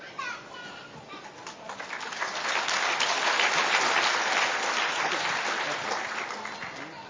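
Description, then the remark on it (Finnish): An audience applauds in a dense, steady wash of clapping that swells after the first two seconds, holds strongly through the middle, and eases slightly toward the end. “Täytyy odottaa, että saatte taputtaa jokaiselle.”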